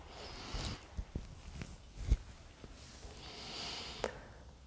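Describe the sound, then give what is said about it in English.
Quick, rhythmic breaths of air puff in and out during a guided breathing exercise, soft and breathy with a few sharper snort-like bursts, and no talking. “A rhythm that might feel for some of you maybe even sometimes a little bit too fast.”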